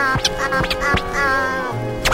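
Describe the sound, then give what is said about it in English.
A bird call with a nasal, quacking quality, several raspy bursts over a steady harmonic tone, fairly loud, with no one speaking. “A bird? Yeah.”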